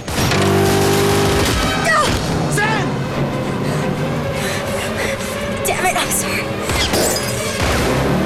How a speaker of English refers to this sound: Passers-by cower as the mobile firefight speeds by through a busy and colourful market area.